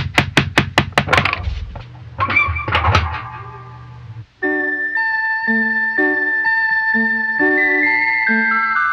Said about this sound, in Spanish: ¿Y si tocamos la puerta?